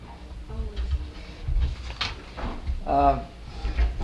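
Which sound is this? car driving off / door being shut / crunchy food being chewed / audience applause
door being shut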